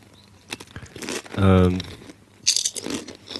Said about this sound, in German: So, ich habe die rote Kettle-Chips-Tüte aufgerissen.